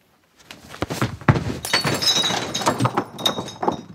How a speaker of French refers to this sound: je lui envoie un truc, je sais plus, il fait une bicyclette, ça part dans les boules, dans les canettes derrière. Ça me démonte à chaque fois.